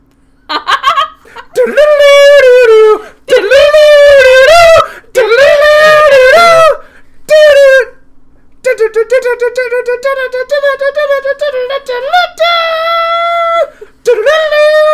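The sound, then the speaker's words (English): A loud voice hums a cartoon theme tune in several bold melodic phrases with brief breaks, the last stretch steadier and more sustained, with no other sounds around it. “None of them have hummable theme songs.”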